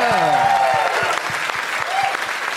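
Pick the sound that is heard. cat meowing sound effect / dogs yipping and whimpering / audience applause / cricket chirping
audience applause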